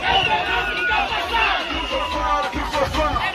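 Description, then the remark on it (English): A young crowd at a Podemos party rally in Mozambique chants and sings the party slogan "Save Mozambique, the country is ours" in loud, boisterous unison, voices layered into a dense roar with rhythmic surges, continuous throughout. “Here they're singing the party slogan, "Save Mozambique, the country is ours."”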